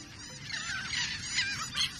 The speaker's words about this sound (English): We're hearing the calls of royal terns. The birds we call terns look like sporty versions of gulls. Like gulls, most terns are feathered gray and white, but terns are more streamlined, with slender pointed wings and spike-like bills.